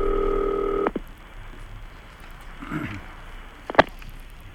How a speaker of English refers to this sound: There's the phone ringing in Arkansas. Haven't talked to Arkansas for some time.